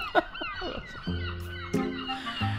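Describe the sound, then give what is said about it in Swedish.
Seagulls cry out in a quick burst of sharp, squealing calls at Saltholmen outside Gothenburg, Sweden, followed by sustained accordion chords that swell and hold underneath a few fainter gull cries. “Ni hörde dragspelet, ni hör måsarna, vi befinner oss på Saltholmen utanför Göteborg.”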